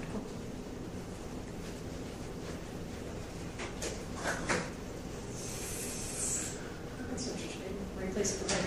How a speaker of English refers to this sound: I'm going to close that door.